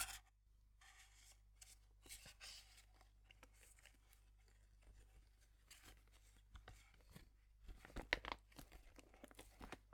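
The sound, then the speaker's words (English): Quiet rustling and crinkling of a resealable plastic pouch as a damp used sheet mask is tucked back inside to be used again, with irregular soft crackles and a brief burst of sharper crinkles near the end. “I'm gonna put it back into you can use it again.”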